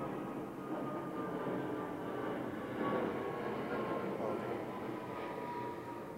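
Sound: airplane flying overhead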